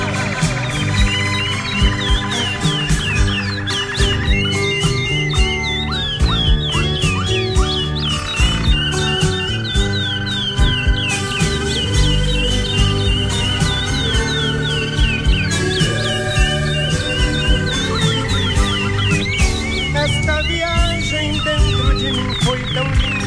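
A busy chorus of sparrows chirping and a thrush singing, overlapping calls and trills filling the whole stretch without pause, fairly loud over a steady low background rumble.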